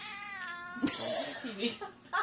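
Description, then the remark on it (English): A cat meows loudly and insistently, a drawn-out wavering cry followed by a few shorter yowls in quick succession, with no talking over it. “apparently my cat.”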